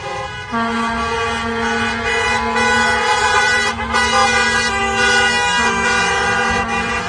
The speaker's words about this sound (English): But first, a crush of cars and trucks, flags waving, horns honking, crowded into the streets in front of Michigan's Capitol today.